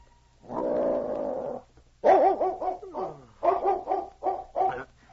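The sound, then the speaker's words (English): A huge dog named Czar, in a cabin after a light snowfall, gives a low, rumbling growl, then breaks into a run of wavering whimpers and short, sharp barks, loud and unaccompanied by any voices. “Suddenly, the huge dog raised his head, his ears pricked forward.”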